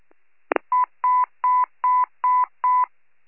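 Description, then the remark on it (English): Warren County fire department radio paging tones dedicated to the final call of life member and honorary chief Carl J. Hess: a brief click, then six evenly spaced, steady electronic beeps of equal mid pitch, each lasting about a third of a second, with no voices. “All units, please stand by as we dedicate these tones to Carl J.”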